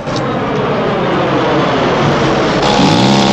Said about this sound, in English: They're driving in a small vintage open-topped car through the city.